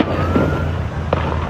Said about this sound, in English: It's a lot of gunshots.